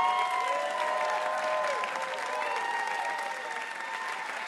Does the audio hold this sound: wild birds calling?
no